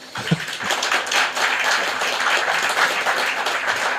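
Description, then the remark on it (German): A crowd applauds steadily, dense overlapping claps filling the whole stretch at a fairly loud, even level without any talking. “Und, können wir einen Applaus haben?”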